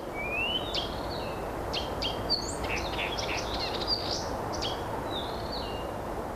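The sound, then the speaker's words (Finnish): A Blyth's reed warbler sings in a forest clearing with lush nettle and raspberry thickets, a varied string of high, quick phrases, slurred whistles and short chirps imitating other species, repeating and changing, while a second warbler about 30 metres away across a path answers in a song contest, over a steady low hiss of background noise. “Tuolla on toinen viitakerttunen vastaalle sille.”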